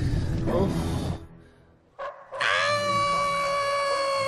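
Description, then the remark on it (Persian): Wolves howling in long, steady, tonal cries that swell in after a brief gap and hold loud, following a burst of rough, noisy scuffling at the start. “از که داره گرگا گوش میکنن، داره تیکه تیکه میشم.”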